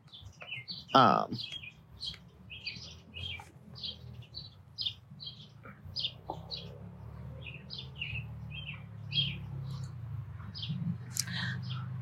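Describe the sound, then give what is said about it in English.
Birds chirp steadily throughout, short high tweets repeating every second or so, over a low background hum with one brief louder call near the start. “The birds demand my attention, so.”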